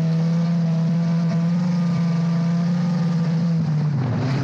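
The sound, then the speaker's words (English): A race car engine drones loudly during ice car racing on a frozen lake in Homer, Alaska, at races organized by the Homer Ice Racing Association. The engine holds a steady, buzzing pitch before dipping lower near the end as it eases off. No voices. “spoke to VOA about her beginnings in ice car racing”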